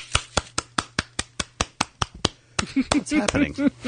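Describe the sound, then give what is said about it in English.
A single person claps steadily for the Wolfman, about five sharp claps per second, crisp and fairly loud. Toward the end a voice starts talking while the clapping keeps going underneath. “Is that just you applauding? I decided to clap for the Wolfman.”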